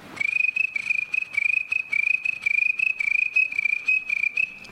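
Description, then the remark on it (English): Crickets of many kinds chirp steadily at night in a high, shrill, continuous pulsing trill, clear, with a faint layered background of more insects and no voices. “There's crickets of all kinds.”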